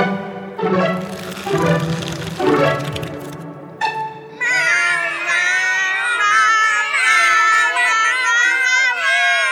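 Several cats meow insistently at feeding time, their high, wavering cries overlapping and rising in pitch, growing into a continuous chorus of restless yowls in the second half.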